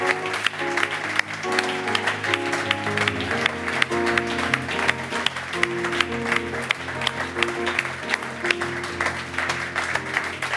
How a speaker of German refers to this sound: Und mit diesem Applaus geht die Geschmackssache, der Podcast für heute zu Ende.